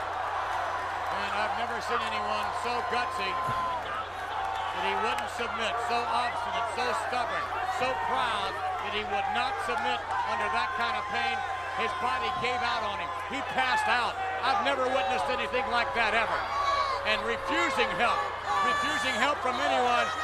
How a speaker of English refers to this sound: Look at that crowd. Listen to that, people.